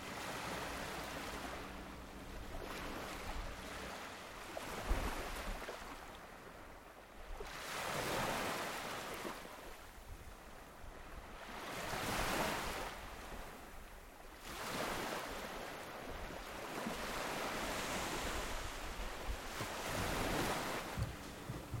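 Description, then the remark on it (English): Ocean waves break close by on a beach on Cape Cod in a steady rhythm, each crash swelling into a broad hiss of surf before receding, with some peripheral traffic audible in the background and no voices present. “I found a desolate area and was able to set up my recording equipment and get really close to the waves.”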